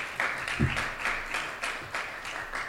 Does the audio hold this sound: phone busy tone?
no